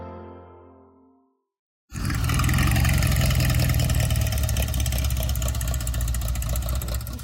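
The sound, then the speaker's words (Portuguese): After a fading tonal sound and a moment of silence, a classic car engine abruptly rumbles to life at the Quinta Antiga car gathering in Planalto Paulista, São Paulo, idling loudly with a steady, throaty low growl that holds until the end. “Carros chamam a atenção de quem passa pelo Planalto Paulista, na zona sul da cidade de São Paulo.”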